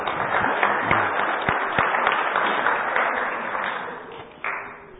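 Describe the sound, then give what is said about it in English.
An audience breaks into steady applause, a dense crackle of many hands clapping that holds for several seconds, eases slightly, then swells briefly again near the end. “Let's give those guys a round of applause.”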